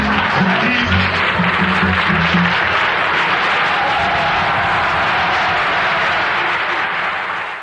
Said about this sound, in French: Et ce sont de vrais applaudissements.